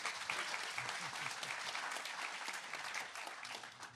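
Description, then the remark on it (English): A crowd applauds the show's guests steadily for about four seconds, many hands clapping in a dense, even patter that holds its loudness throughout, with no voices standing out. “You can clap for them.”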